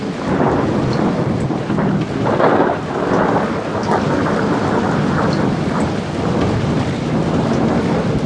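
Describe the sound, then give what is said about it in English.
A heavy rainstorm hisses steadily while deep thunder rolls and rumbles underneath, swelling in low, loud waves throughout with no voices. “Singe my white head, and thou, all-shaking thunder, strike flat the thick rotundity of the world.”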